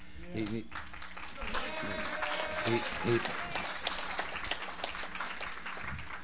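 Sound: audience applause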